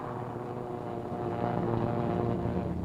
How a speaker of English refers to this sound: Next to go, nose wheel lifted and wing flaps down for maximum lift and the quickest possible takeoff. Another B-25 to join the formation circling over the task force until all the 16 planes can get into the air.